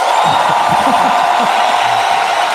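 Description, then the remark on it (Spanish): Steady, loud applause from an audience cheering for one of the finalists in a contest, a dense wash of clapping with scattered cheers and whoops rising out of the crowd. “Aplausos para Milton.”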